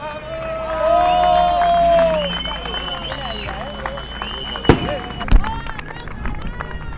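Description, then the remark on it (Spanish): Outdoor celebration of the end of a strike with a noisy crowd shouting chants, sustained car horns honking early on, then two sharp, loud firework bangs a moment apart rising above the din as fireworks go off in the sky over the district. “Respondían también con bocinazos entre el humo de las bengalas rojas que iluminaban toda esa zona, incluso fuegos artificiales en el cielo de la comarca, gritos también, consignas que han marcado la huelga.”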